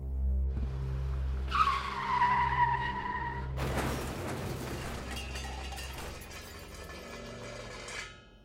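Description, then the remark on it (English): Tires squeal in a sustained, high-pitched skid over a low engine rumble, then a loud crash erupts into a long burst of shattering glass and clattering debris; one of a series of unexplained car crashes in the town center, dated July 3rd, 2013. “A series of unexplained car crashes in the town center.”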